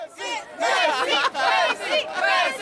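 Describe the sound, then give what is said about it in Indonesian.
A football fan at the Inter Miami vs Cruz Azul match at Drive Pink Stadium in Fort Lauderdale, Florida shouts loudly that Messi is the best, voice strained and rising and falling across several bursts over a steady roar of the surrounding crowd. “Messi yang terbaik, seru salah seorang penonton pertandingan antara Inter Miami dan Cruz Azul di Stadion Drive Pink di kota Fort Lauderdale, Florida kepada VOA Jumat lalu.”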